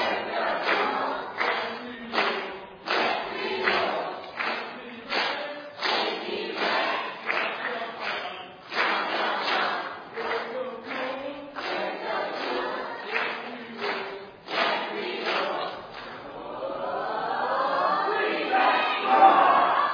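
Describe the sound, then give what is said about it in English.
A team of kids cheer loudly together in a cheering contest, shouting in rhythmic bursts like a chanted team cheer, ending in a sustained, rising roar of voices. “We're going to see who does the better job cheering. So get out your best cheer.”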